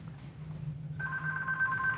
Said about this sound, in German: So, und jetzt geht das Telefon. Jetzt gehe ich da mal schnell hin. Vielleicht will ja jemand Karten.